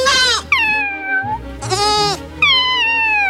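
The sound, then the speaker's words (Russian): Two newborn goat kids that live in a hut bleat in high, wavering cries, two voices overlapping in quick succession, loud, with pitches sliding downward at the end of each call and no talking. “Помимо хозяйки, в избушке живут два новорожденных козленка и две кошки – Полоска и Шубейка.”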